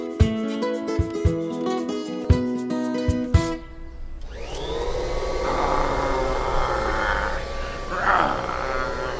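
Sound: vacuum cleaner running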